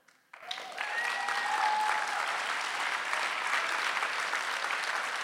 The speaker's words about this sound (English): And in parting, my friends, and thank you so very much for your kind applause in enduring me this evening.